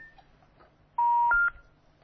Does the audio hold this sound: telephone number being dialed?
yes